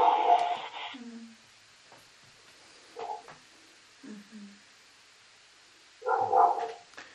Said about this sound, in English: it sounds like her dog is barking.